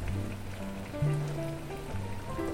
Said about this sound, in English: But, did you hear that? It's raining where I'm at, speaking of rain.